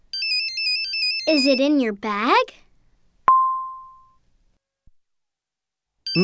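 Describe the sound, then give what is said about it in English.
A mobile phone in someone's pocket plays a bright, stepped electronic ringtone melody, then stops for a short spoken question. A single chime rings out and fades before the ringtone starts again at the end. “Oh, it's my phone. Where's my phone”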